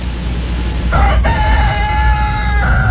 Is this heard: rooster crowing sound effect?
yes